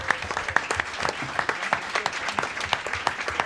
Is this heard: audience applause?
yes